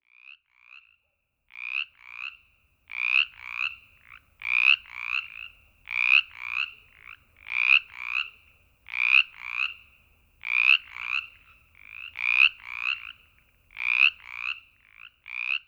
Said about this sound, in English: If you guessed a chorus frog, you're right. That was Brimley's chorus frog, a small frog found in marshes, swamps, and wet woods in Virginia's southeastern coastal plain.